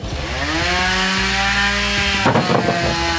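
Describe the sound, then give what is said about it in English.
A loud, steady chainsaw running on a demonstration fuel drones with a strong engine hum, then bursts of gritty, crackling noise as the blade bites through a big block of ice, spraying water and ice, in a small airplane hangar on a very hot day. “the fuel being demoed was powering a chainsaw cutting through this big block of ice”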